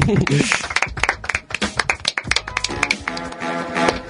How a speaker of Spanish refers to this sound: Un aplauso.